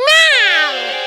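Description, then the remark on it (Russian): A single drawn-out cat yowl in a kitchen, loud, as a lit splinter is poked at its glowing eyes, its pitch rising and then sliding down into a strained, angry wail lasting about a second. “Но какой же кошке это понравится?”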